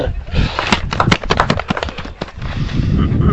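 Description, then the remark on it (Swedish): A brief burst of clapping from several people, dense and irregular sharp claps for a couple of seconds before fading into a low, noisy murmur. “En applåd!”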